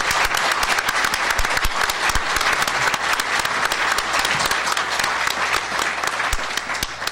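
A crowd applauds Howard Glaser, director of state operations, and his team for their work on an agreement, at an event with Governor Cuomo. The dense clapping holds at an even loudness for about seven seconds with no speech over it.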